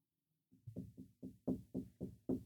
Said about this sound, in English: I'm sorry, there's a knock at my door. Can I help you?